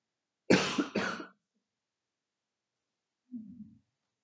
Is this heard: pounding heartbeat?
no